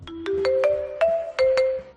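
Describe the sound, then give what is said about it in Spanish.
A short electronic chime jingle of about seven quick notes stepping upward in pitch, each with a bright struck attack and a sustained tone, like a train announcement signal. No voices. “La gente se cree que eso está en los trenes puesto ahí desde que lo fabrican.”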